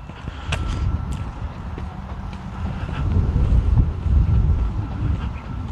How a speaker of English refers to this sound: It was kind of just, gust here, gust there when I started out, but it has started to pick up to be relatively breezy here.